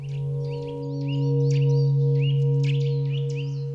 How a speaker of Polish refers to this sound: Teraz właśnie odzywam się obok kowalik. Zaczyna już pierwsze wiosenne takie gwizdy słychać.